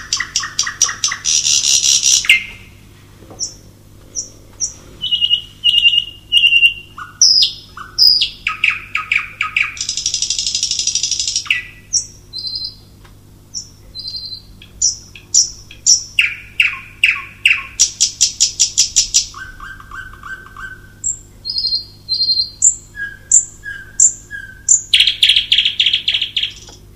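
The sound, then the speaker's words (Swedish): A nightingale sings loudly and continuously at one of the island's most reliable nightingale spots, alternating rich buzzy bursts with pure whistled notes and rapid repeated chips, each phrase separated by brief pauses. No one speaks. “Just det, redan då var det ett av öns säkraste näktergalsställen.”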